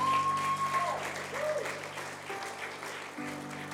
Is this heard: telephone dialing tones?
no